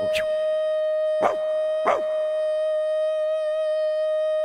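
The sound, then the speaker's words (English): A dog howls one long, steady, even-pitched note that holds for several seconds, punctuated early on by three short, sharp yelps. No one speaks. “Look at the dog.”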